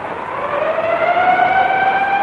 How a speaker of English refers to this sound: Now the siren.